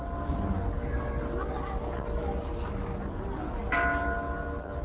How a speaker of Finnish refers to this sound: Vuonna 1954 vihityn ja kaikista maanosista saaduilla lahjoituksilla rakennetun maailmanrauhan kirkon kellot, jotka ovat tuodut ruurista, kiirivät yli kiihkeän ja nykyaikaisen Hiroshiman.